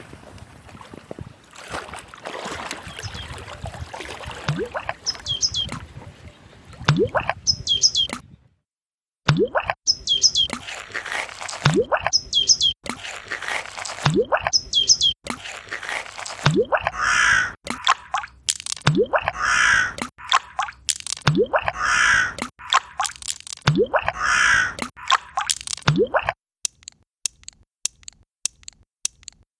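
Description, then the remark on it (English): Outdoor Danube Island wetland ambience in Vienna's 22nd district, with harsh crows cawing again and again over a steady background hiss, scattered bird chirps in between, and a few sharp ticks at the end. “Ambience of Danube Island.”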